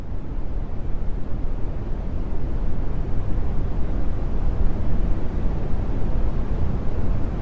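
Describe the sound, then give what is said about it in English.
Steady brown noise, a deep continuous rumble with energy concentrated in the low end and little hiss up top, holding an even loudness for the whole stretch with no voices. “This is brown noise.”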